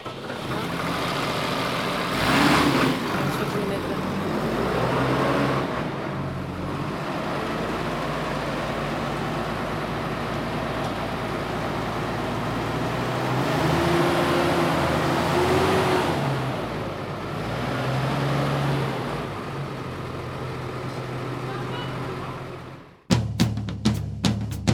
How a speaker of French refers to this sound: Est-ce que vous pouvez démarrer le tracteur, s'il vous plaît? Oui, bah, je vais vous le démarrer, si vous voulez.